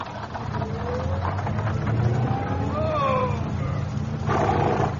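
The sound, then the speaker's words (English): A car engine rumbles loudly and steadily, with a whining tone rising and falling over the deep throb as it revs and settles. “your car hasn't broken down, I hope.”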